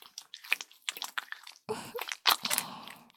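Wet dripping and squishing sounds, a quick irregular run of soft splats and drips followed by a couple of louder, fuller wet splashes. No voices are heard.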